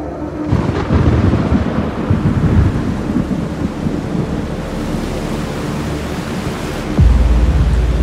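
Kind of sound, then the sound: nature, thunderstorm with rolling thunder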